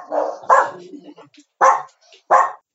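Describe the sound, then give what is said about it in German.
A dog, a resident of a supervised shelter that houses homeless people and their pets, barks three or four short, sharp barks spaced irregularly with brief pauses between them, loud against an otherwise quiet background. “Wer hier bellt, ist ein Bewohner des Hauses Sama.”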